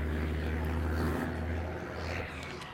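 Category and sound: vehicle, truck driving by outside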